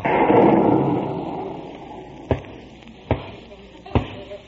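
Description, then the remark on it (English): A low, rolling rumble of thunder at Malibu Beach fades over a couple of seconds, followed by three sharp, evenly spaced knocks that sound like a knock on the door. No one speaks. “What was that? Thunder.”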